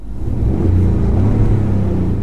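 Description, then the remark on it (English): A steady, loud engine drone with deep low rumble and faint harmonic hum from a Ford F-150 pickup truck engine with synthetic sound enhancement, running continuously without speech, sustained evenly for the whole couple of seconds. “Here is the sound, enhanced, if you will.”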